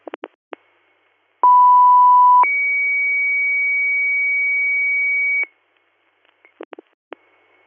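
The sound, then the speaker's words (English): An emergency dispatch pager alert paging South Creek EMS for the second time, to assist in Ridgeberry Township for a trauma: a loud, steady lower tone for about a second, then a longer, higher tone held for three seconds, framed by sharp radio clicks before and after. “South Creek EMS, second page.”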